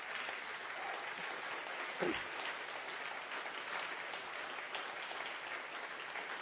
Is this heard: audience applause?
yes